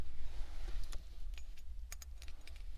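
Keys on a keychain jingle in several light, bright metallic bursts, fairly quiet, over a low rumbling background hum. The keychain is a small gifted item that reports the owner's location. No one speaks.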